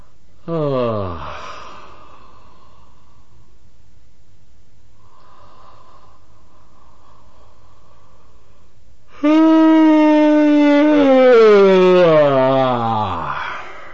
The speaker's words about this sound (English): Finally, near the end of his session, he first stifles a yawn and then makes a big production out of a yawn, which is completely artificial. I'm not sure you can hear it, but I hope so.